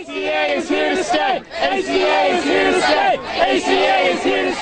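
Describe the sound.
A large crowd celebrating outside the court after its decision on the Affordable Care Act cheers and chants loudly and continuously, many voices overlapping in rising and falling shouts, with a brief dip partway through before the roar picks back up.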